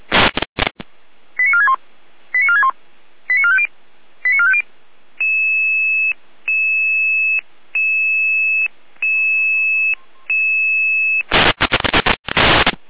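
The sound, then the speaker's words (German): Dispatch radio alerting tones from a control center alerting Red Cross Saalfeld rescue units and police to a fallen, helpless person: a burst of static, four quick stepped tone sequences, then six long, steady, evenly spaced electronic beeps, ending in another loud crackle of radio noise. “Leitstelle in Alarmierung.”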